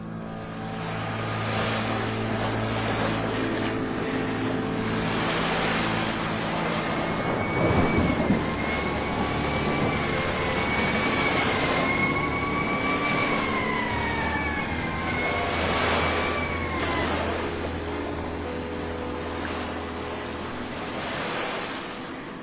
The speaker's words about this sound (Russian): Разыгравшийся шторм вздымал огромные волны, которые, наваливаясь друг на друга с грохотом, разбивались о прибрежные камни. Напрасно сирена маяка старалась пересилить этот рев.